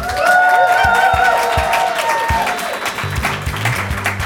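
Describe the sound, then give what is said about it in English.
A live audience of dozens in Miami applauds in a dense, steady wash of clapping, with whoops and cheers rising over it early on, then settling into sustained applause. “It's a crowd of dozens.”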